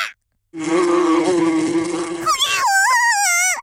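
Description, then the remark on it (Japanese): A loud, dense buzzing of an angry bee swarm drones steadily for a couple of seconds, then shifts into higher, wavering whines that rise and fall in pitch before cutting off abruptly. “ハチどもに囲まれた。”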